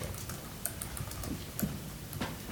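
Steady, quick tapping on a computer keyboard as an amendment is typed during a policy meeting, a string of small irregular clicks at moderate volume against a quiet background, with no talking.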